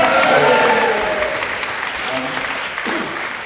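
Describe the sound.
An audience at a choir concert applauds steadily in thanks to a choir member, the dense clapping loud at first and easing slightly over a few seconds, with faint voices murmuring underneath.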